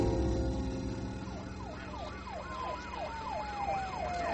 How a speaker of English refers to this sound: The minutes ticked by, nothing. The sirens were switched off. The lights flashed in the silence.